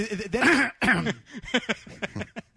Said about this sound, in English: No, I was clearing my throat. It must be the pollen.